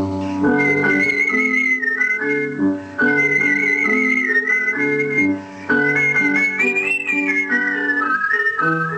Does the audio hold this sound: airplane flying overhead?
no